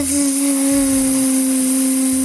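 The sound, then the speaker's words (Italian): A voice imitates the buzzing of bees, answering what sound bees on the farm make, with one steady, loud, droning buzz that holds an even low pitch for about two seconds without a break. “Che rumore fanno le api?”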